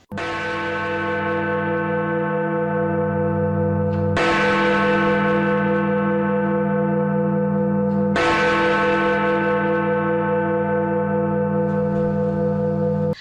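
A deep tower clock bell tolls three times at slow, even intervals, striking midnight at night, each loud strike ringing out with a long, shimmering hum that overlaps the next; no voices are heard.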